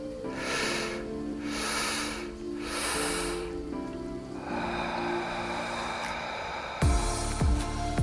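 Three steady, airy breaths through the mouth or nose during a guided breathing session rise and fall over a soft, sustained musical drone, followed by a couple of low thumps near the end.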